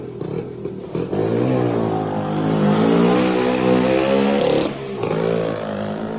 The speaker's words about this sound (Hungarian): A Nyuszika motoron folytatta útját.